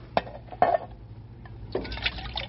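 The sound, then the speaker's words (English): In the desert, water is poured from a water bag into a held pan to wet the horses' and burros' mouths: two quick splashes, then a steadier gurgling pour, fairly quiet, with no one speaking. “Me take water bag and help Ralph. Yeah, hold this pan, will you, Grey Wolf?”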